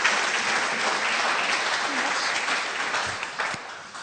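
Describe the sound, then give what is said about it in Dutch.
Sustained applause from a church audience for its worship team, a dense wash of many hands clapping steadily for about four seconds at a fairly loud, even level before easing slightly at the end. “Zullen we ze even een applaus geven?”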